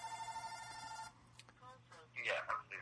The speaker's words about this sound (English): Oh, dear. Somebody's phone's ringing.